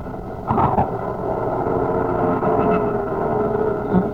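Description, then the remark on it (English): A small airplane engine, flying over the desert, drones steadily throughout, a continuous buzzing hum with a rough, rumbling texture and slight swells in loudness, with no voices present. “We shouldn't have taken this little plane, Soup.”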